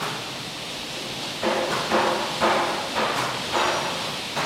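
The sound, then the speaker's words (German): Steady, resonant hammer blows as coopers make wooden wine barrels in a large hall of a cooperage near Bordeaux, about five strikes at an even half-second rhythm, ringing over a constant hiss of noise. No voices. “Die Herstellung eines Holzfasses macht Lärm, viel Lärm.”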